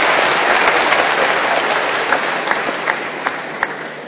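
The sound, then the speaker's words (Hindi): A crowd applauds steadily for several seconds, a dense wash of many hands clapping with a few sharper individual claps standing out near the end. “तो परिवर्तन, हाँ हाँ, बजा सकते ताली।”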